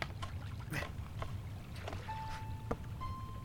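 Oars splash repeatedly as a rowing boat moves through water, with irregular watery sloshes over a steady low rumble and a faint tonal hum in the background.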